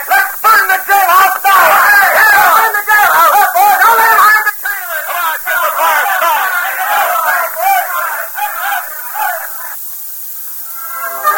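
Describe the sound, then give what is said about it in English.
An angry mob shouts and clamors continuously, many voices overlapping into a loud, agitated roar that stays steady before easing slightly near the end. “… brought the crowd to a new high pitch when he shouted”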